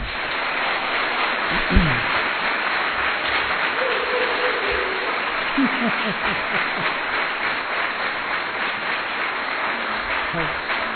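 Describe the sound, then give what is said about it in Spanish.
Loud, sustained applause from a large audience at the 2018 Hispanic American annual meeting in Pilar, Argentina, directed at people following online, dense crackling clapping that fills the whole clip, with a few brief voices and shouts rising above it. “Así que desde aquí, desde Pilar, en la reunión anual 2018, reunión anual hispanoamericana 2018, nuestro amor a ustedes manifestado en este fuerte aplauso.”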